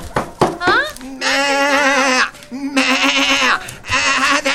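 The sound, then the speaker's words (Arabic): A sheep bleats three times in loud, wavering, nasal calls, each lasting about a second, after a few brief vocal sounds at the start. “من الخروف؟ نعم ما أنا الخروف”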